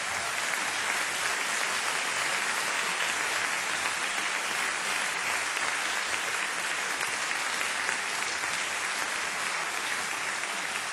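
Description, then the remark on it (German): A concert audience gives sustained applause for a soloist from the band's own ranks, a dense, steady wash of many hands clapping at even loudness for the full stretch, with no voices standing out. “Und ich finde, der hat schon jetzt einen extra Applaus nochmal verdient.”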